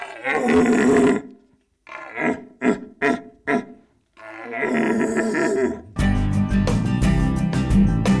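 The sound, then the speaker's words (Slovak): A man's voice imitates a red deer stag's rutting roar: a long bellow, a series of short grunting barks, then another drawn-out roar, loud, before music starts. “Tak som začal skúšať bábiť tie jelene.”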